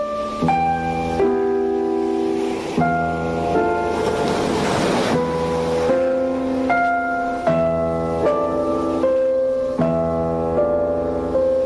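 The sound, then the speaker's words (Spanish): Gentle, sustained theme music of the 50ers programme on Ràdio Estel, with soft chord changes, plays over a steady wash of ocean surf, the waves swelling broadly in the middle before easing back. No one speaks. “Hi ha unes onades de mar per sota...”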